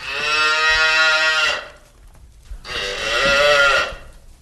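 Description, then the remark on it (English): A cow moos twice on Boston Common, brought by dairy farmers to Beacon Hill: two long, loud, drawn-out calls, each about a second and a half, with a short pause between them and no talking. “As it was hundreds of years ago, when cows grazed there, that sound could be heard again on Boston Common today, as dairy farmers and a select group of consumers come to Beacon Hill to voice concern about a proposed new state regulation”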